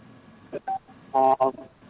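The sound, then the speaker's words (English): Several short electronic keypad beeps as a caller presses number 6 on a telephone to mute it, sounding over a thin phone line with faint background noise. One of the tones lasts noticeably longer than the others. “Please mute your phone. You press number 6.”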